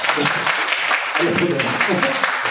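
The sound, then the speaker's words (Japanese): A crowd claps steadily for a couple of seconds, a dense, even patter of many hands, with a voice talking faintly over the applause, as those who know a floor guidance mat product are asked to clap. “歩道具、床に誘導マットっていう形で貼らせていただいている施設さんも多くございますが、うん、歩道具をご存知の方拍手お願いします。”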